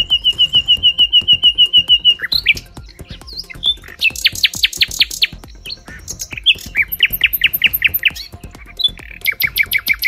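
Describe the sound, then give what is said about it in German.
A nightingale sings alone, loud, cycling through varied phrases: a rapid even trill, sharp repeated chirps, high whistled notes and churring bursts with brief pauses between. “nur noch die Nachtigall.”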